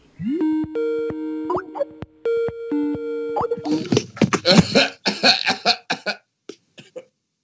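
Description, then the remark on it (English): A bout of several harsh, rapid coughs erupts after a repeating electronic ringing tone, trailing off into a few softer coughs at the end. “I'm keeping that cough in,”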